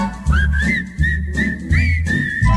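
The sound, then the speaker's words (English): A bright whistled melody carries a tune with gliding, sustained notes, backed by a steady low thumping accompaniment, moderately loud throughout with no talking. “What do you see in Omaha that you never see in other cities? You see whistling people.”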